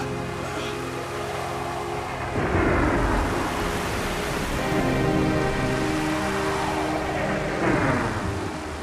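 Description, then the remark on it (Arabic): A loud, continuous storm roar of howling wind and rough, crashing sea waves around a sailing boat as rain begins, with heavy surges swelling around the start and near the end. No one speaks. “ايه ده، في مطره والريح ابتدت تقوم.”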